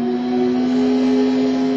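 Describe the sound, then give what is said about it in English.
A motor runs at a steady pitch, a loud, even drone with strong harmonic overtones and no revving swells. It continues unbroken for the whole moment, with no talking. “Progress is the sound of a motor,”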